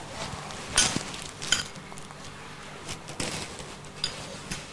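Plates being handled, with a handful of sharp clinks and clatters spread irregularly across a low hum, moderately loud, with no talking.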